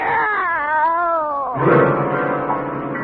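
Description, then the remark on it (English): A cat, brought in a big box as a gift in the radio show Our Miss Brooks, lets out a long, loud, wavering caterwaul that rises and falls in pitch, then turns into a rougher, strained yowl for a couple of seconds, with no talking. “It's a cat, Miss Brooks.”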